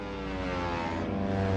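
propeller airplanes flying overhead

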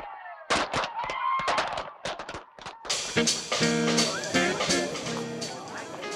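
fireworks exploding

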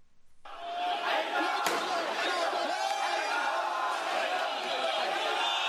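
street protest crowd shouting

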